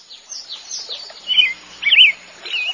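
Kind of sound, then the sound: bird, bird chirping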